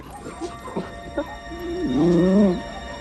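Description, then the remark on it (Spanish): A dog locked in a cage gives three short, sharp barks, then lets out a longer, louder wavering howl that rises and falls in pitch before trailing off. No one speaks. “El chucho ladra encerrado en otra jaula.”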